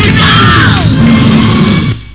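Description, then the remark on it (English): A large crowd roars, cheering and yelling together in a loud, dense, sustained wall of voices, with a few shouts rising above it before the noise cuts off abruptly. “Listen to him cheer.”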